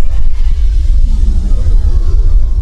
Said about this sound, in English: I was about to say more when, from somewhere nearer than was altogether comfortable, we heard a kind of bass, electronic, rippling, thrumming sound, deep, like artificial thunder.